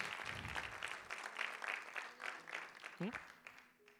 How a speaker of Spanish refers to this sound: Le den un fuerte aplauso, claro que sí.